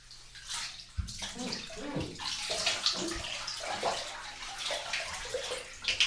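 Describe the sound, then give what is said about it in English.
Bath water is poured over hair in a steady splashing stream, a continuous rush and patter of water with small surges that lasts several seconds, with no voices. “Now let me get it nice and wet for you.”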